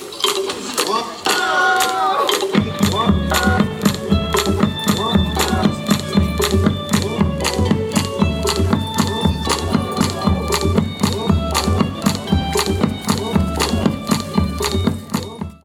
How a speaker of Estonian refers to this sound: Muusik juba läks käima ja tantsijad siis praegu teevad kergeid kummardusi publikule ja esimesed tantsusammud on juba tehtud.